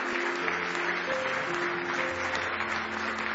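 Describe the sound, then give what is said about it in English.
A crowd claps steadily and enthusiastically in praise of the Lord Jesus, a dense wash of many hands applauding together, with faint sustained tones and murmuring beneath. “Give him one more hand clap of praise if you love him this morning.”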